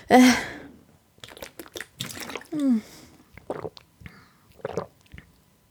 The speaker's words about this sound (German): Ich muss mal einen Schluck trinken, Leute.